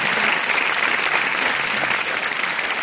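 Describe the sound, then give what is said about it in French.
An audience claps steadily for a few seconds after a reading of a literary text, a dense, even patter of many hands that stays loud and unbroken throughout, with no voices standing out. “On peut applaudir quand même, c'est un très joli texte.”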